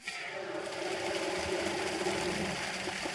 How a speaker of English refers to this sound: opens the tap to send water into the fields at his family's farm in the Central Valley town of Los Banos.